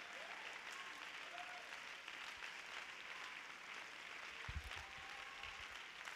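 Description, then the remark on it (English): An audience at a church service claps hands in sustained, dense applause of praise at a steady level for several seconds, with a few faint voices mixed in. “Can we have an apostolic hand clap of praise?”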